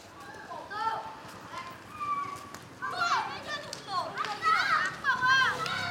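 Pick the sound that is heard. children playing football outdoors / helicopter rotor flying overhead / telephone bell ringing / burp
children playing football outdoors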